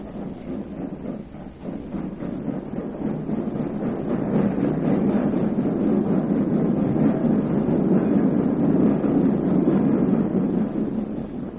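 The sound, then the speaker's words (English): A passenger train rolls steadily along the rails, a continuous rumble that swells slightly in loudness and holds for the whole stretch, with no voices. “They're on the train now somewhere, coming this way.”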